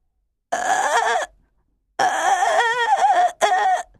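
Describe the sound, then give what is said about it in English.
A singer's voice on a stage, changing suddenly in the middle of a difficult passage, makes croaking, frog-like sounds in three harsh, raspy bursts, the first short, then a longer wavering one and a quick final croak, with no speech. “She sounded exactly like a frog croaking.”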